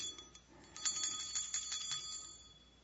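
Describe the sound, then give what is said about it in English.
A small bell with a little Christmas tree on top rings with a quick series of bright, tinkling strikes that keep going for a few seconds. It's fairly quiet, with no one speaking. “We can hear a bell.”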